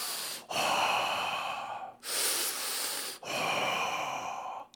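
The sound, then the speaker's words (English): A person mimics heavy, mechanical-sounding respirator breathing by breathing in and out through a woven guitar strap held over the mouth, in a guitar lesson room: three loud, raspy wheezing breaths alternating in and out, with brief pauses between them and no talking. “suddenly this strange wheezing sound, like Darth Vader from Star Wars, had just stepped into the room”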